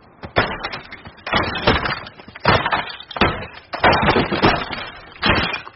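A laptop is smashed with a hammer: a string of loud, irregular, cracking blows, roughly eight heavy strikes with brief rattling clatter between them.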